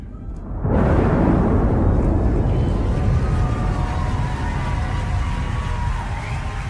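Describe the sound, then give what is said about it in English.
After a brief silence, a loud thunder rumble bursts in and rolls on steadily as a deep, sustained roar, with faint tonal notes lingering faintly above it. “Yes, we needed that thunder at the end, didn't we?”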